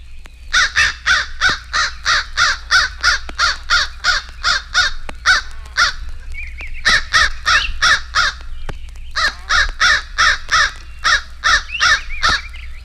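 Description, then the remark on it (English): An Eastern Crow caws loudly and repeatedly in quick, rhythmic bursts, with brief pauses between runs of harsh calls, with no voices. “Here is the familiar call of the Eastern Crow.”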